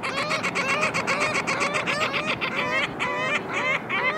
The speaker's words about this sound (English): That black band around their sharp yellow beaks means these are ring-billed gulls sharing your afternoon on the water.